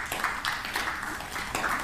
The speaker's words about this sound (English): Have you ever heard snow? No. Well then, stop clapping.